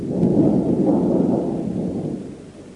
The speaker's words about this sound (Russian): И как гроза. Да и дождик.